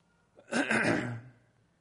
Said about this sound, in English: You can hear me coughing.